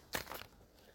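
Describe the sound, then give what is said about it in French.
A brief rustle of a sheet of paper being picked out and handled, a sharp crinkly burst followed by a softer scrape, then quiet. “Et je vais choisir un bout de papier”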